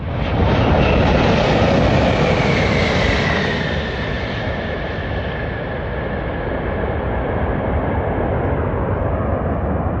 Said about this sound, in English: Out here on the taxiway at Denver International Airport, we just watched the biggest passenger jet in the world land with the Rocky Mountains behind them. The Lufthansa Airbus A380 touched down after a nonstop flight from Munich, Germany.